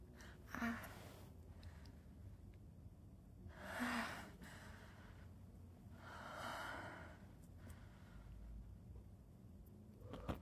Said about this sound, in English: I just blew out the candle because I was breathing.